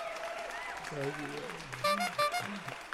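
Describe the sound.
Steady studio applause for a visiting professor at the close of the broadcast fills the whole stretch as a dense, even patter of clapping, with people talking over it.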